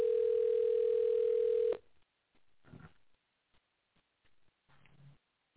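A steady, single-pitched ringing tone of an outgoing phone call sounds loudly for almost two seconds, then cuts off abruptly, leaving near silence with a few faint, brief noises.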